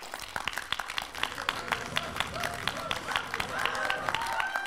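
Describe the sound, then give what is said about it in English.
An audience claps rapidly and continuously for 10 seconds, as fast and as loud as they can, a dense, steady patter of sharp hand claps that stays energetic throughout, with faint cheering voices rising in the mix toward the end. “For 10 seconds, all of you are going to clap as fast as you can, as loud as you can.”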